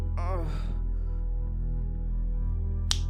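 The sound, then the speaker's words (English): A single crisp, distinct finger snap lands sharply near the end. Earlier there's a brief breathy vocal sound over a steady low hum. “Every finger snap making your cock twice as hard.”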